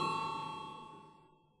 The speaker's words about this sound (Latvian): Lūdzu zvanu, lūdzu balsošanas režīmu.